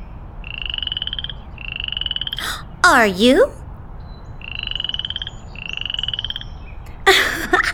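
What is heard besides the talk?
frog croaking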